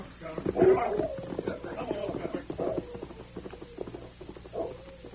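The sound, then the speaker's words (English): A dog gives several short barks and whining whimpers in uneven bursts, with a faint rhythmic clatter in the background. “with that dog of his.”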